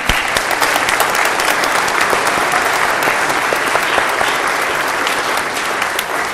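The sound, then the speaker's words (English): An audience claps for baby Jesus, celebrating the birth of the Savior, in a steady, dense wash of applause that holds at an even level for several seconds, with many overlapping sharp claps and no voices standing out. “If you're happy tonight, I want you to clap for baby Jesus.”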